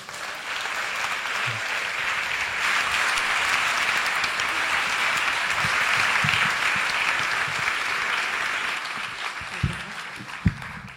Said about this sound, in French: Donc merci d'applaudir très fort, Emma Domas.